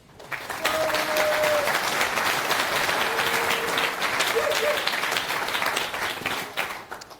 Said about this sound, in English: Round of applause, thank you.